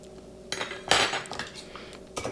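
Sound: stirring a cocktail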